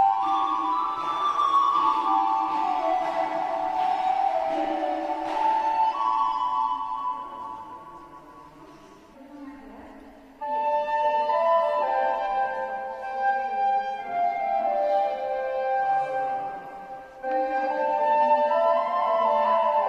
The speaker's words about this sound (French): entrons dans cette église Saint-Théodule à la belle réverbération et avec les sons de la répétition de la flûtiste